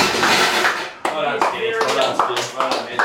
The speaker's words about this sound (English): Fantastic. Who deserves a round of applause?